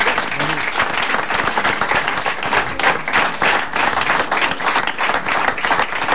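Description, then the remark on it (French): A TV studio audience on a Canal Plus set applauds steadily for several seconds to thank Ariane and welcome Valérie Damido onto the set, a dense, even wash of many hands clapping with no voices standing out above it. “Alors, sons des applaudissements pour remercier Ariane ou pour saluer l'entrée de Valérie Damido dans ce plateau.”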